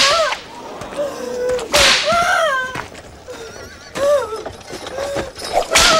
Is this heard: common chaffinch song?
no